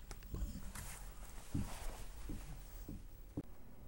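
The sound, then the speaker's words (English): Amanda, a guide dog, moves about, her paws pattering and clicking on a hard floor in a handful of irregular steps over a low background hiss, with no talking. “Oh, it sure is fun getting some good Amanda sounds on my recorder here.”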